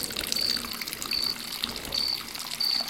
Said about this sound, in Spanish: Son las 4 de la mañana. A esta hora dan agua para que la gente que tiene tanques de agua los llene.